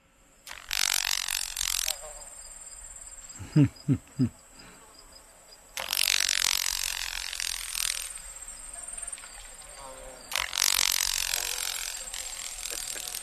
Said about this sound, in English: The following examples of crepitation are from a Carolina grasshopper.